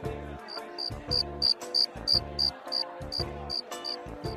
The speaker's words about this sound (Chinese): 马里奥好奇地走了过去，嘿，原来是一只蟋蟀。